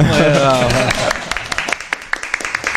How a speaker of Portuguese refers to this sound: Ai, quero palmas.